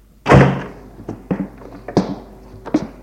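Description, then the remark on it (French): The door of a dark room with a table and a bench opens with a heavy thunk, then several softer knocks and creaks follow at irregular intervals, fading out over a few seconds. No one speaks. “Il reste là un moment à attendre, puis la porte s'ouvre.”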